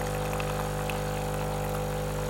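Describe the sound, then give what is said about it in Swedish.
A coffee machine brewing: a steady, unbroken mechanical hum with low droning tones and a soft hiss on top, holding even loudness throughout, with no voices. “Det är så här, det har räddat oss många gånger, kaffemaskinen.”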